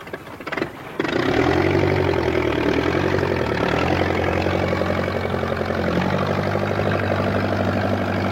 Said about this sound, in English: A tractor. You got it, because at autumn you need your tractors to get the harvest in.